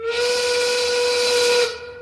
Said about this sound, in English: And by the way, you're probably hearing the dull roar in the background of the soldering that's going on right outside my window here in the studios.